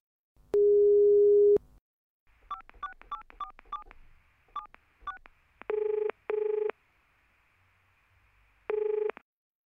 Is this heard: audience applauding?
no